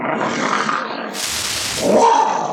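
Dogs growl and snarl in a continuous, rough rumble, with a harsher hissing surge midway and a louder growl near the end. No one speaks.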